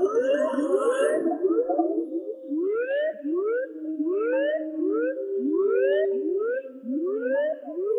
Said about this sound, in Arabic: كوازي، أجب يا كوازي. فقدنا الاتصال، لنطلق جهاز الإنذار.